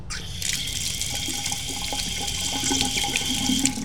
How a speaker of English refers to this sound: Right now we are in the bathroom and we're washing our hands. See, you can hear the water. Let's turn on the water. Listen to this.